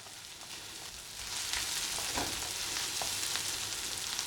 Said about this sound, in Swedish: And I'll add the garlic. Dags för vitlöken som bara ska fräsas en kort stund innan tomatpurén åker i. And it cooks quickly.